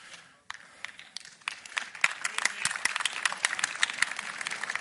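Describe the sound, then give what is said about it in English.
A crowd breaks into applause, starting sparse after a brief hush and quickly swelling into dense, steady clapping that continues throughout at moderate loudness. “Applause always helps.”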